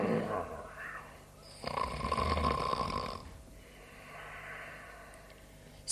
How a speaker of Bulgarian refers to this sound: спи дълбоко и хърка.